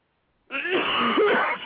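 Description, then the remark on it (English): A single harsh, rasping cough-and-sneeze burst, fairly loud, lasting about a second with a throaty rattle, caused by something caught in the throat. No one speaks. “Then, you know, I have something caught in my throat. And oh, okay. And it makes you cough and sneeze.”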